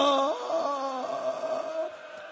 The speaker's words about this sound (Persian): ماشاءالله جانم به این ناله.